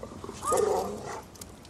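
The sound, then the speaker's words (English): A pit bull dog named Captain Crunch gives a short, rising and falling whimper, a single strained whine lasting under a second against a quiet background, with no one talking. “Nice dog.”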